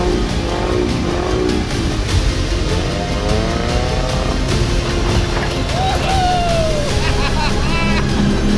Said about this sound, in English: Sorry, this boat is more responsive than I thought. It's getting fast. Don't lose it. I'm trying. Throttle's at the max.